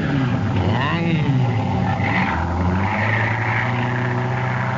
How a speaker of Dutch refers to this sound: Dit is voor alle mensen met iets zwaardere auto's, zoals u daardoor kunt horen.